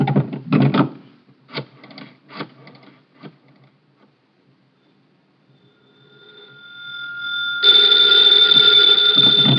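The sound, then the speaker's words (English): A few wooden knocks and clatters, then a faint tone swells before a loud telephone bell bursts into a continuous ring that carries on to the end. “Hand me the phone.”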